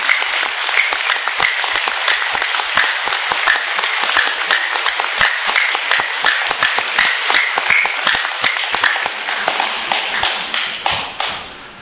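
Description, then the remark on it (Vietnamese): A crowd applauds steadily, dense overlapping claps at a loud, even level for several seconds before tapering off with a few scattered final claps, no one speaking, applauding Buddhist members of the Bát Nhã practice community who stand up. “Dạ, quý vị đi qua, và quý vị nào đó từng đi hội niệm trong đạo tràng Bát Nhã đứng lên để nhận một tràng pháo tay tán thưởng vui Phật tử.”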